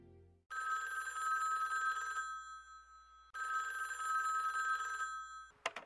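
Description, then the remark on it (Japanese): A telephone rings as someone calls his mother, in two long electronic bursts separated by a short pause, steady and fairly loud, with a faint low hum throughout and a brief click at the end as if picked up. “数日後、私は母に電話した。”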